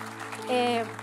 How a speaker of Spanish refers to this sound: Así que amo que estés aquí y quiero saludar a nuestro campus virtual. ¿Me ayudan a dar un aplauso, por favor, a nuestro campus virtual? A todos.